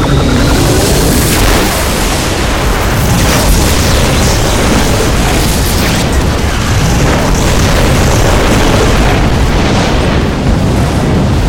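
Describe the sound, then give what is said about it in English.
A massive explosion roars and rumbles continuously, a dense wall of booming noise with crackling debris that stays loud for the full length without easing off. No voices. “A thin, white-skinned shape blew out on the backwash of the explosion.”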